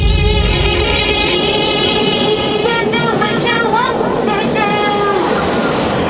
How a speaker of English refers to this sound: This train going by.